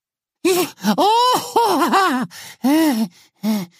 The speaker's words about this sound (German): Keucht